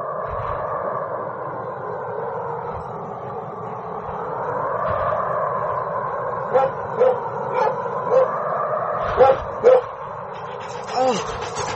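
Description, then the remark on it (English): A dog named Moss whimpers in a long, wavering whine in snow, then lets out a series of short, sharp barks, about seven or eight spaced irregularly toward the end. “Get dog off me.”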